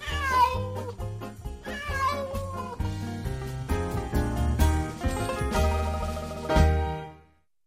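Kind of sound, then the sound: animal, cat meowing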